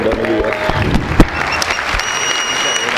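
Audience applause for a man whose parents have just handed him car keys. A steady, dense patter of many hands clapping at moderate loudness fills the whole stretch, with a brief sharper burst partway through and faint whistle-like tones above.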